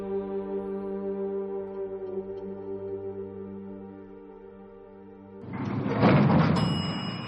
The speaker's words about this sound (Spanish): El ascensor nos deja en el último piso.